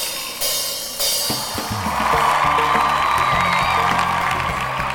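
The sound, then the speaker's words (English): A massive concert crowd of some 80,000 to 100,000 people at a CD release party in Athens, Georgia, in 1998 roars and cheers continuously, a dense wash of voices with scattered whoops and shouts rising above the steady, loud din for the whole stretch. “The crowd she was talking to numbered somewhere between 80 and 100,000 people.”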